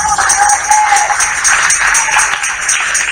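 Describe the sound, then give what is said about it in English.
A crowd claps for God together in a dense, steady burst of applause that fills the whole moment at an even, fairly loud level, with no one speaking over it. “Can you clap for this God?”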